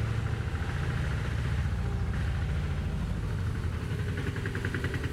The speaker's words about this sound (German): Das ist kein Rasenmäher. Das ist ein Kipper. Er ist nur laut. Fährt aber in die andere Richtung.